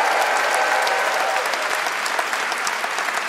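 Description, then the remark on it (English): A live audience at a Freakonomics Radio live show claps steadily for the night's guests, a dense wash of many hands applauding at an even, sustained loudness with crisp individual claps peppering the noise. “And could we please have one more round of applause for all our guests tonight?”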